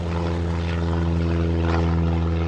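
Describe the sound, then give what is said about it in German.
A propeller airplane engine drones loudly and steadily, a constant throbbing hum with no pauses or other sounds, as Melly Bese starts the plane's motor and takes off at a flight school just after sunrise. “Sie steigt ins Flugzeug, startet den Motor und hebt ab.”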